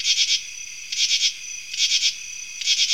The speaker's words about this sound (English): here's the second one, the common true katydid